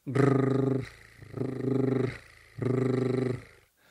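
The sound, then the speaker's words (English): Three voiced tongue trills as a vocal warm-up, rolled-R buzzes each lasting under a second with short pauses between, held at a fairly steady mid pitch with a rapid fluttering rattle. No talking. “And the tongue drill, with and without the voice.”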